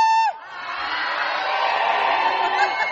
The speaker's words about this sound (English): Oh, I love to hear all that carrying on and hollering.